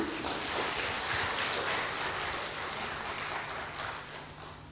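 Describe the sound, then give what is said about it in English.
An audience claps steadily for several seconds, a dense, even wash of many hands with no voices over it, holding level and then easing slightly at the end. “You may clap for yourself.”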